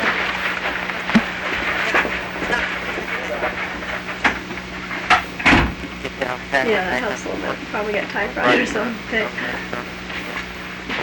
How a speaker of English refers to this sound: Can you close this door?